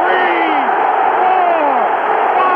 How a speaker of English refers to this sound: Ali, a sneaky right hand. Another sneaky right hand. This time he works over the shoulder of Foreman. Crowd's going wild.